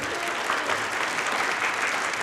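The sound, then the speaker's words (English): The Red Barn Radio studio audience, members from England, at the Performance Hall at Arts Place in downtown Lexington, Kentucky, claps together in a steady, dense wash of applause that holds at an even level for a couple of seconds, with no voices standing out. “And of course, members of our studio audience, all the way from England. Give yourselves a round of applause.”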